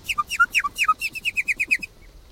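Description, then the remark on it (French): A nightingale sings a short phrase: a few loud, sweeping two-part whistles followed by a quick, even run of about ten bright repeated notes, then silence. The song contains small imitations of toad calls. “Alors à l'intérieur, on entend des petits cris de crapaud. Quand on entend des imitations de crapaud, ouais.”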